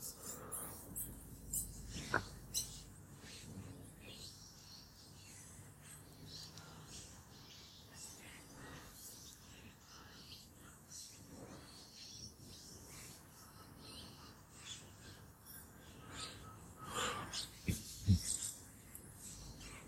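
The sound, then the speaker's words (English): Faint, scattered wild bird chirps and songs drift through quiet woods, intermittent, with soft rustling and occasional low thumps. “All right, I'm listening to those bird songs while you're doing your bit.”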